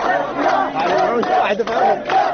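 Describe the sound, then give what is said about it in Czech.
A large crowd of refugees at the Hungarian border crossing chants "Hvala Srbijo" in unison as they head back, many voices shouting the phrase over and over, loud and continuous, with the repetitions rising and falling in steady waves. “Izbjeglice su tada krenule nazad, skandirajući "Hvala Srbijo".”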